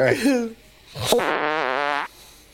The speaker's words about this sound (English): All right. Oh, that's tiny. Yar, for a big man, that's a small fart. Say, play it one more again for me. Will ye? Sound like a baby blowing out a birthday.